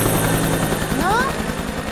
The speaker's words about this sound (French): Vous avez vu là-haut l'hélicoptère au-dessus de vos têtes? Oui, là-haut.